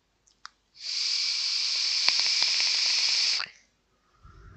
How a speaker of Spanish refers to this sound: Este es el sonido que produce el vapeador, así se le puede llamar al aparato que sirve para vapear, aunque puede haber otros nombres.